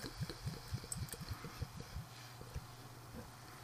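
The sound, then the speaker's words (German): Belgian beer glugs from a bottle into a glass in a quick run of low, bubbling pulses that slow and fade toward the end, quiet with no voices; the pale beer foams heavily. “gieß mal ein hier, die Goldbrühe.”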